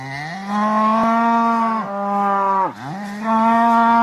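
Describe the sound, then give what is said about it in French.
A cow moos loudly in a long, drawn-out call that dips in pitch midway, then rises again and holds steady to the end, with no other sounds around it. “Donc moi je vous réponds « Le grand gagnant ou perdant selon les points de vue va être la vache !»”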